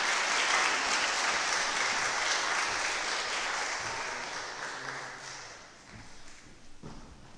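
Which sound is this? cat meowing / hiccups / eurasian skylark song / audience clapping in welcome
audience clapping in welcome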